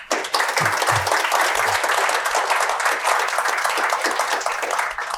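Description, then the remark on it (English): An audience at a panel event breaks into sustained applause for the panelists, many hands clapping in a dense, steady wash of sound that holds at full strength for several seconds with no voices over it. “And let's give our panelists a round of applause.”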